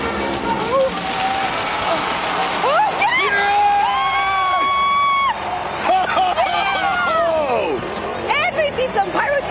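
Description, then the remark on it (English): A large crowd in Las Vegas cheers loudly and steadily as Travis Pastrana, riding an Indian Scout FTR-750 motorcycle, clears 52 crushed cars in the first jump of the evening, with high whoops, shouts and screams swelling through the middle and rising again toward the end. “Here's some audio from the first jump of the evening where he successfully cleared 52 crushed cars.”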